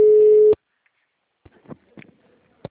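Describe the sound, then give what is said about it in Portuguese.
A telephone busy signal from a busy internal office extension: one loud, steady, mid-low beep lasting about half a second, then cutting off. Faint clicks and soft handling noises follow in the quiet that remains. “O ramal da Andressa está ocupado.”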